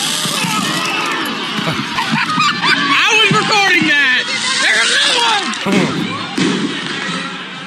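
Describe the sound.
Fireworks pop and thud over a noisy, murmuring crowd at a ballpark, set off in left field and flying across the field toward the first baseline, with a voice talking through the bursts.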